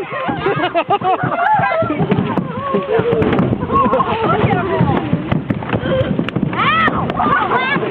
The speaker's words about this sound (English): They are big, can get up to 100 pounds. They can be thick in the waterways. When a boat comes through, well, here's the sound of a family being bombarded by Asian carp from all sides.